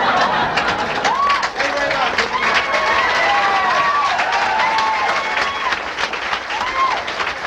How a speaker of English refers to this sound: Nice round of applause for Al LaBelle.